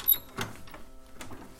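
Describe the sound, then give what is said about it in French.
The door of a home being opened, with a quick clunk of the latch followed by scraping, rattling mechanical sounds, fairly quiet and over within a couple of seconds. “Un bruit de la porte.”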